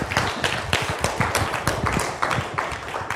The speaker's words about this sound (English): Now, I know you might have all been applauding for the story